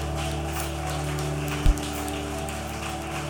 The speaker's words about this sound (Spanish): ¿Cuántos damos un fuerte aplauso a Cristo? Aleluya, aleluya.